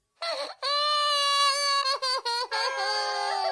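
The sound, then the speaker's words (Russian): Loud, close-up wailing sobs: a long high-pitched cry that breaks into several short choked sobs before rising into another sustained wail, with no talking. “Тише, тише. Вот тебе мороженое, и только не плачь.”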